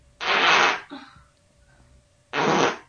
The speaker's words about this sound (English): You got a problem with the farting? We're watching a video of somebody taking a fart, making money, and we're adding to their money.